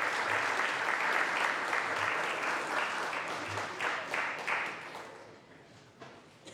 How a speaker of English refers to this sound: Please join me in congratulating the Grant High School drum line, and maybe we can give them applause to equal their drumming.